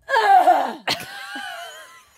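A voice imitates a woman's distinctive wheezy cough: a strained, rasping tone drops in pitch, then a sharp cough bursts out, followed by a thin whistling wheeze and one last short hack.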